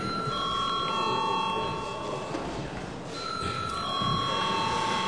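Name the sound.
parliament voting bell ringing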